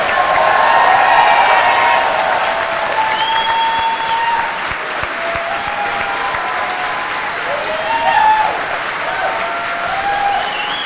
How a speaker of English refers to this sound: How about a round of applause for this incredible cast?